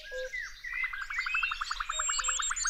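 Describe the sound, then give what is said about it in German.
Many different species of songbirds sing at once on a spring morning, with a rapid, even trill of repeated chirps running through a backdrop of overlapping whistles and tweets, steady throughout. “In der Früh hört sich das richtig schön an, weil da ganz viele verschiedene Vogelarten singen.”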